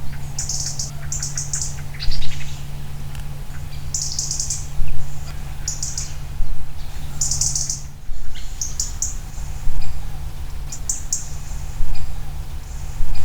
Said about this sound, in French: Et puis, ils font aussi des cris. Là, c'est le cri du rouge-gorge.